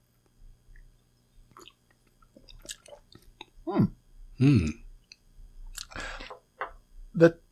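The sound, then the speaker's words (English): Quiet sips of sake from a sakazuki, a low, flat saucer cup: a few short slurps spaced a second or so apart, with small wet mouth clicks and swallowing noises in between. “Let's give it a taste and All sip right. from our sakazuki.”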